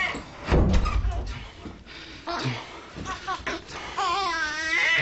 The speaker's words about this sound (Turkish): Seher kapı sesiyle sıçrayarak uyandı uykusundan.